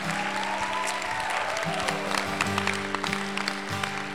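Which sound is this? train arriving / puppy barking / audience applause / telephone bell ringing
audience applause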